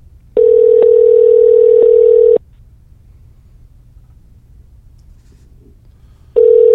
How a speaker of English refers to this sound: Who you calling? Let's find out. It's ringing. Ringing.